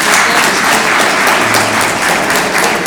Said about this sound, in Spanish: Así que el aplauso es para el grupo que construyó el transmisor de radio. Muchas gracias.